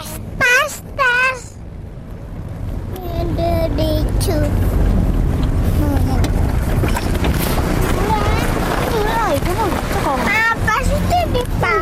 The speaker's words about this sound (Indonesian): Di pantai.